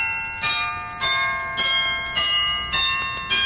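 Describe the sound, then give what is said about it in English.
Bells ring in a steady rhythm, about six clear strikes roughly half a second apart, each bright metallic tone sustaining and overlapping the next. No voices are heard. “Them bells will drive you crazy, you know.”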